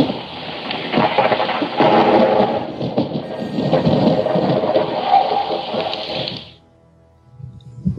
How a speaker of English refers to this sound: That is the storm outside, well, I guess on Dagobah, and during while Yoda's dying inside his hood. God damn! Death of Yoda slash thunder.